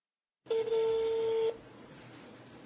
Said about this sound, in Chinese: 他拨通了国内关押他妻子王小燕女士的劳教所的电话